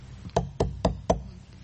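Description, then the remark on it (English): Four evenly spaced knocks on a door, each sharp and solid, in a steady rhythm with a quiet background and no voices. “God's standing on the outside going, hello, anybody home?”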